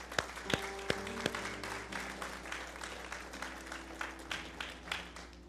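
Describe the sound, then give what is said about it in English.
An audience applauds the young singers steadily, a dense patter of many hands clapping over a low sustained hum, with a few sharp louder claps near the start. “All of our singers, let's give a round of applause.”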